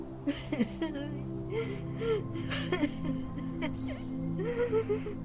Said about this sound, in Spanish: ¿Por qué? Ánimo, levántate. ¿Por qué este llanto desconsolado? ¿Tienes alguna desventura que manifestarme?